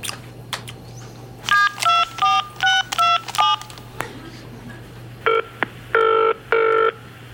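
A mobile phone dials a number that turns out to be unavailable: a quick run of short, bright keypad beeps, then after a brief pause a few longer electronic tones as the call goes through, heard clearly.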